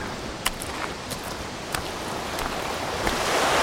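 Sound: sea waves and wind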